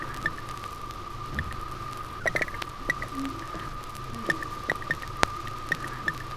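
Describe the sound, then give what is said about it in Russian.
Loaches moving in an aquarium make faint, irregular clicks and scratchy taps, scattered unevenly over a steady low hum and a thin continuous tone. “Звуки, издаваемые вьюнами при движении в аквариуме.”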